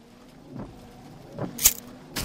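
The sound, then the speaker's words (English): Hushed interior of a car parked while its occupants watch a house: a low, steady hum with a few soft rustles, then two brief, sharp hissy clicks near the end. No one speaks. “We've been sat in this car for the last hour watching the house.”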